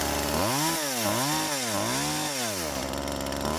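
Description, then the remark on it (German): A loud chainsaw revs repeatedly, its engine whine swooping up and down in pitch several times over a few seconds, continuous with no one talking. “Meine Kettensäge ist leider gerade leer, sonst hätte ich sie kurz mal angemacht.”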